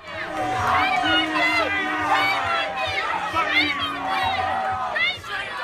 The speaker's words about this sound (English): Shame on you, and some booing there for one of the leaders of the Leave campaign, Boris Johnson.